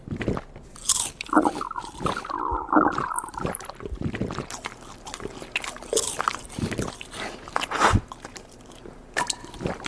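Loud crunching and chewing of food by an old lady, with irregular crisp bites and wet mastication sounds repeating throughout, no talking.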